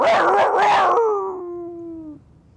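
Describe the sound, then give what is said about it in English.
A dog-like howl rings out loud, starting in a rough, yelping burst and then sliding down into a long falling wail that fades after about two seconds. “And he said, dogs, get him!”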